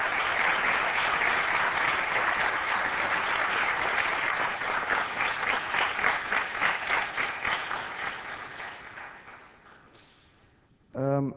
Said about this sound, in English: And I think he deserves a huge round of applause before we start.